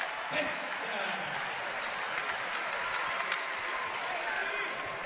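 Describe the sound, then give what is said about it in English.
A large arena crowd cheers and applauds after a slam dunk by Al Benson in a basketball game, a dense, steady roar that stays loud for several seconds, with no single voice standing out. “Al Benson getting the crowd up.”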